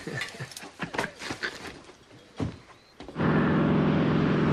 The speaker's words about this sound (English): The seaplane takes off. Now flying over the woodland and fields around Beaver.